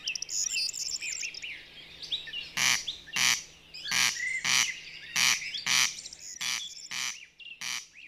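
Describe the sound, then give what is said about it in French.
A corncrake gives its dry, rasping call again and again in a steady rhythm, loud, in the grassy fields north of Angers, France, while other birds chirp and twitter faintly in the background. “Ce petit oiseau, c'est le râle des genêts.”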